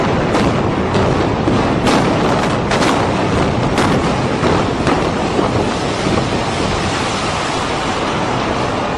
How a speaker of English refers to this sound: Then a fourth explosion rocks the debris. Collapsing about 8 minutes after that, a fourth explosion at the World Trade Center, perhaps at the base of the building. All of a sudden you hear explosion and you can see the building starting to collapse.